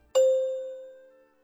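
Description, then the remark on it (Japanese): A single clear chime strikes once and its bright ringing tone fades slowly over about a second, heard alone with no voices, signaling the learner to answer in a Ukumuni language lesson. “のチャイムの後に、山、海、川のように標準語で指示しますので、のチャイムの後に、指示した標準語と対応するうくむにの単語を使って回答しましょう。”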